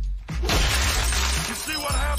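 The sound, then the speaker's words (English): A car being smashed by John Goodman's character in the film The Big Lebowski: a sudden loud crash of shattering glass bursts in and keeps crackling and tinkling with bright, scattering debris for about two seconds. “Remember John Goodman's character in The Big Lebowski when he's destroying that guy's car, Larry's car, and it turns out it wasn't Larry's car at all?”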